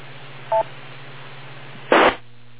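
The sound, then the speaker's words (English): A single short electronic beep with a two-tone quality, then a brief harsh burst of noise a moment later, all over a low steady hum with no talking. “I'll wait for the beep.”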